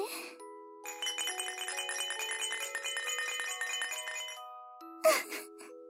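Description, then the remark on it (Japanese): A baby rattle, called Mama's hypnosis rattle, shaken in a steady, rapid run of bright, bell-like chiming notes lasting several seconds, then stopping, with a short breathy burst right after. “ほーら、ママの催眠ガラガラの音を聞きまちょうね。”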